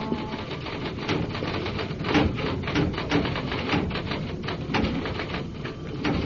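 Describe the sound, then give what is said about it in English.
Rapid, continuous mechanical clacking of typewriter keys as reports are typed up at Metro Division Homicide, a dense stream of sharp clicks with occasional heavier strikes, steady and fairly loud throughout with no voices. “And at Metro Division Homicide, there are reports to type up.”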